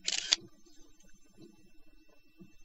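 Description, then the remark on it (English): A single bright, crisp camera shutter click from a phone taking a picture for image recognition with anti-shake protection, lasting about a third of a second, then faint low murmuring underneath for the rest of the moment. “Anti-shake protection. Taking a picture.”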